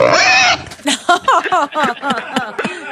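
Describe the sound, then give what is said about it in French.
A pig squeals loudly for a moment, then lets out a quick series of choppy grunts and snorts in an uneven rhythm. “C'est sûr que ce cochon apprécie pas tant.”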